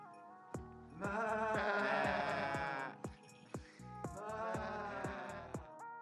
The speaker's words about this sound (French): Il fait chaud et il y a des chèvres qui mangent de l'herbe.